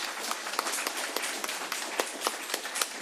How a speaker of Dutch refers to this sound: En ik zou zeggen, mensen, geef dan toch maar een keer een applaus.